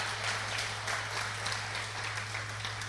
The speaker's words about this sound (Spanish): Den un aplauso al Señor, gloria al Señor.